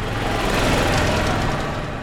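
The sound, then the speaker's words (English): A small gas engine hums steadily as a gas-powered golf cart drives past in the hilly town of Avalon, its buzzing motor noise holding fairly loud and even through the short moment, with no voices. “The sound of carts going by becomes familiar pretty quickly.”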